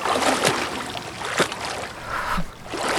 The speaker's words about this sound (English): As I said, there is water present in the west dive room. Allow it to vent.